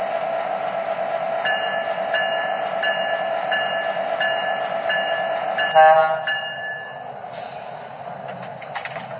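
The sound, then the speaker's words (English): Train number 18, bound for Chicago, idles on track 1 at the Kansas City station with a steady low rumble, while a repeating electronic beep pulses at an even rhythm, then a brief clank and hiss before the sound settles quieter. “access on track 1. Train number 18.”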